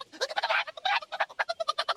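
A chicken carried by a lady clucks in a quick, choppy series of about a dozen short, throaty bursts, fairly loud and uneven in rhythm, with no one talking over it.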